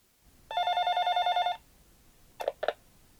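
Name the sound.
telephone ringing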